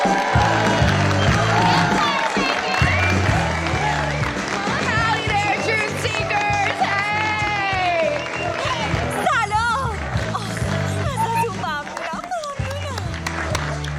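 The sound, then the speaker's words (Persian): A loud crowd cheers and claps steadily for a speaker introduced as Firecracker, a writer, filmmaker and political activist, with whoops and shouted voices rising above a thumping musical beat that continues throughout. “پس لطفاً همراه من این نویسنده، فیلمساز، فعال سیاسی، گزارشگر برتر و صدای برتر جنبش آلت سوپ در یوتیوب رو تشویق کنید.”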